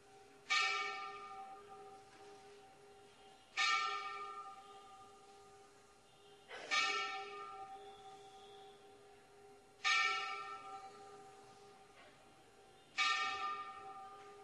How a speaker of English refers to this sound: Wait a second. The bell has to finish ringing.